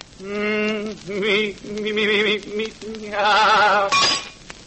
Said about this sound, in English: Well, did I really shatter the water tumbler? No. Someone threw a brick through the window.